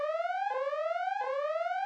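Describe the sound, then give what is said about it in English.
An electronic alarm sound effect: a loud, buzzy tone that sweeps upward in pitch, then drops and rises again in a steady repeating whoop, with no voices. “Wait, where's the alarm sound?”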